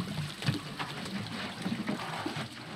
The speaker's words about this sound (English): The women dip large plastic cans into a basin filled with water from a nearby well.